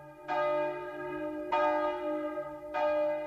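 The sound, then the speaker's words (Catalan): Church bells ring out in three strong, evenly spaced strikes, each leaving a long shimmering hum that overlaps the next. The pealing is loud, with no voices. “I vinga a repicar! Tots els canons anaven fent la mateixa cançó.”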